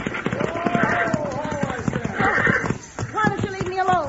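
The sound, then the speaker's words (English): Horses' hooves clatter in a quick, steady clip-clop as the horses are being stopped, running beneath loud, urgent shouting voices that carry on over the beats. “Pull them horses down!”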